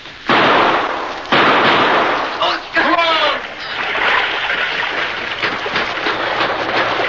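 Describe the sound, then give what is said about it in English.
Two sharp, loud gunshot blasts ring out in a cave as men shoot at a man trying to escape through an underground river, giving way to a continuous churning splash of rushing water, with some shouted, whistling voices briefly cutting through the noise. “He's trying to get out of the river! Shoot!”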